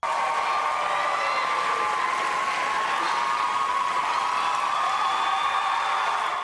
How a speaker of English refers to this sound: It's the most cheering J-Lo's had this whole decade. Jennifer Lopez left it all on the stage at the 2022 MTV Movie and TV Awards. Mm. The superstar received the Generation Award at Sunday's big show